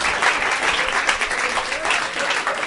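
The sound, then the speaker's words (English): An audience claps steadily and loudly after a contestant correctly names the movie Deep Impact, a dense, continuous wash of many hands with no pauses and no voices standing out. “Stop clapping! Stop clapping!”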